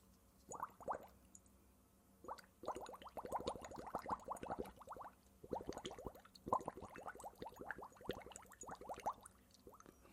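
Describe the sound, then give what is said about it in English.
Bubbles gurgle through a straw into water in a glass, as a calming breathing exercise, in several sustained bursts of rapid bubbling, separated by short pauses for breath, with no talking. “And what we're going to do is very similar to the first calming breath we did, but we're going to do it now through a straw into water.”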